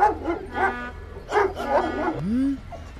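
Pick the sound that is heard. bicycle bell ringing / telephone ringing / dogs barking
dogs barking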